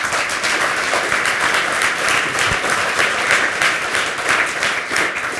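A crowd applauds steadily, a dense wash of many hands clapping at once, fairly loud and sustained throughout with no voices breaking through.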